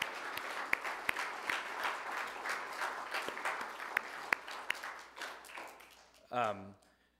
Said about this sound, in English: Let's offer a quick round of applause for all the youth and adults.